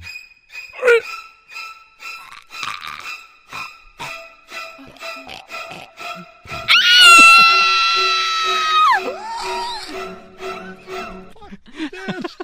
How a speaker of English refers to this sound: Oh my god, that was an impressive scream. That was really good.